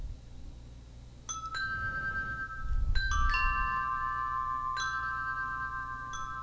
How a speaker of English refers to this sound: And the thing that I love about it, I'm not sure if you're going to hear it, but I can pick the different kinds of wind chimes.